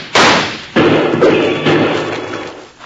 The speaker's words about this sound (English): Shooting always clears up my head and I can hear real good. Well, if that's the case, Bill, let's shoot at those lizards some more and shake up Rocky's hearing again.